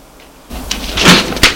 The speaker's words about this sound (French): La porte s'est ouverte.